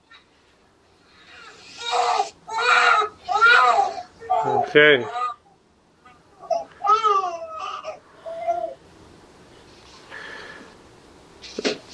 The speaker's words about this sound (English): Is that the newborn?